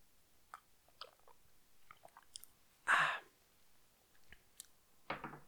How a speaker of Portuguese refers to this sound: Ouviram o copo a pousar? Exatamente.